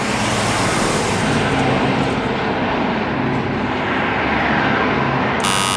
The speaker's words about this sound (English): That's the M3 at Junction 13.